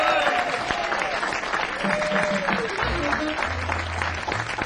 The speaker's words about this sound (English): How about one more round of applause for … and the quintet on the stage?